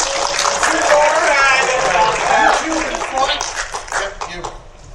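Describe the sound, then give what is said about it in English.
Audience applause after a contestant's correct answer in a live game: a dense, steady wash of many hands clapping for about five seconds, with excited voices and whoops mixed in, tapering off slightly at the end. “A round of applause.”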